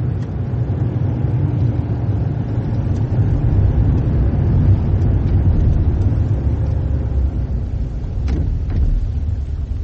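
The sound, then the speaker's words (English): A car engine rumbles steadily for the whole stretch as the vehicle pulls in and stops on Burley Road, a low continuous drone with no voices and no clear cut-off at the end. “Stop the car. Pull in over there.”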